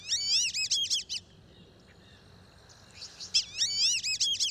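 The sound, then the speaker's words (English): Black-bellied whistling ducks give two bursts of shrill, wavering multi-note whistles, separated by a quieter pause, over a faint background hum of insects. “They're called black-bellied whistling ducks, and they're widespread in Central and South America.”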